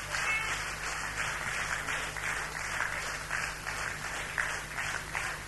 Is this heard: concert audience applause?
yes